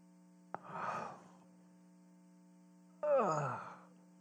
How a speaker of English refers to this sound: You can't even fake yawn, can you? That didn't even look real, did it? You guys are going, no, that's not a real yawn.